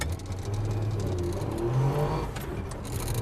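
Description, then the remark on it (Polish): A two-stroke car engine revs and accelerates, its buzzy low drone rising in pitch steadily over a few seconds, loud and continuous with no one speaking. “Prawdą jest, co mówili, że dwusów ma niesamowity moment obrotowy. Mama. Potrafi przyspieszyć.”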